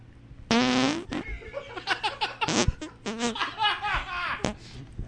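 A loud, drawn-out buzzing fart with a wavering, rising pitch, followed by a run of shorter sputtering bursts and some muffled laughter over about five seconds.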